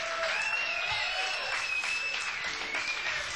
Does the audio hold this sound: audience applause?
yes